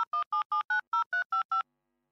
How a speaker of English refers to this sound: I kept dialing his home number in New Jersey, but I would never get through. I'd only get busy signals.